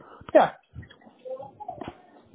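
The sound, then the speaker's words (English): Dogs whimper behind a closed door, starting with a sharp, louder yelp and trailing into softer, muffled whines and squeaks that come and go over a couple of seconds. “I just closed the door on my dogs here.”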